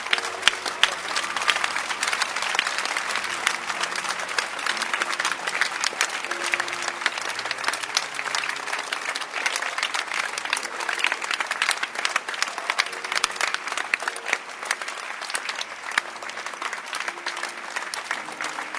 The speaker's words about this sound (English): Don't stop clapping.